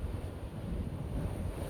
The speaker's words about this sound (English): The sound of the waves crashing.